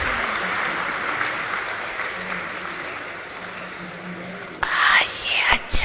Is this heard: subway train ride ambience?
no